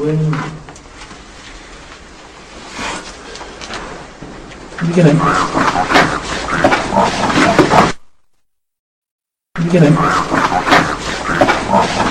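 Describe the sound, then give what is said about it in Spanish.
A deep, low voice says in English "I have the body of a pig", then loud, rough snorting bursts take over, pausing for a moment of silence before another harsh snort-like blast. “se escucha a una persona que estaba hablando, pero justo cuando ésta calla, se oye una voz grave que dice «I have the body of a pig». Traducido al castellano es «Tengo el cuerpo de un cerdo». Y seguidamente, un ronquido fuerte.”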